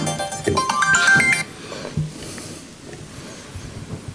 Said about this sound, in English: Who set a timer for me to stop?